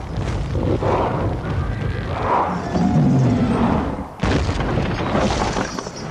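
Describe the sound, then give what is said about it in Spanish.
At night, a battering ram, pulled back on chains by trolls and released, pounds the gate of Minas Tirith in The Lord of the Rings: The Return of the King, with heavy booming, splintering thuds over a dense, roaring din; the noise cuts out briefly before another loud crashing blow. “Los troll tiran hacia atrás de las cadenas del ariete, sueltan y este hace tambalear la puerta de la ciudad.”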